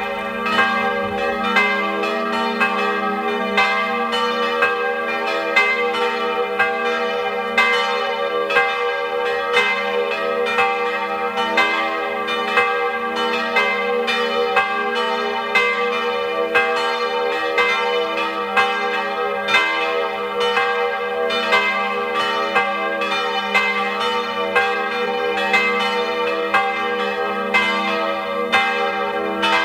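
The bells of the chaplaincy and pilgrimage church Maria Hilf in Griers, in the Sulztal valley of Tyrol, Austria, ring at 12 noon, steadily for the full stretch, their strokes overlapping into a rich, sustained peal with a constant humming resonance, loud, with no voices.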